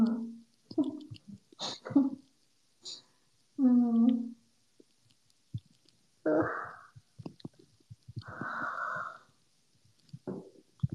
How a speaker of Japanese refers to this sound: 無理あくび編だわ。